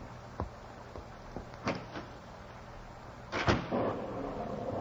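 door opening

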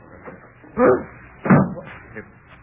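door being opened

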